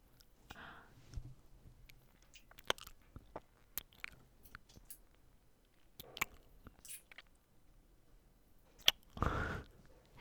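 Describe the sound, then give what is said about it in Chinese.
Wet mouth noises of someone sucking on fingers: soft sucking and smacking with scattered clicks at an irregular pace, then a louder muffled burst near the end. No one speaks. “你含着我的手指头发出声音的时候，那种含糊不清的声音，简直太让人上头了，就让人想狠狠地干死你，就像小动物一样。”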